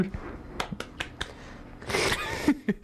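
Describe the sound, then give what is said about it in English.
A handful of sharp, irregular claps spaced unevenly, with a brief rustling burst of noise in between; no voices, just scattered hand claps at a moderate level. “Random clapping.”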